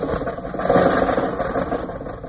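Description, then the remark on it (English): An old car engine sputters and chugs, running with a rough, rattling rhythm that swells slightly after a moment and keeps going steadily, fairly loud, with no voices. “I threw a cough drop in the gas tank. Now, Rochester, drive us out of North Hollywood.”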